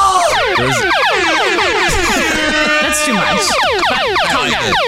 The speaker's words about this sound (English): Sorry. I just got the Daily Double sound effect. Yeah, got it for me, so I just figured I could use it. Test it out. Make sure it's working.